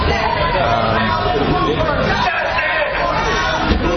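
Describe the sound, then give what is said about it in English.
A dense, restless crowd fills the scene with overlapping voices and chatter, occasional taunts and angry shouts breaking through the steady hubbub, all fairly loud throughout; the crowd is angry at a police chief, with a couple of police squad cars present. “you can hear the occasional taunts and angry shouts from the crowd.”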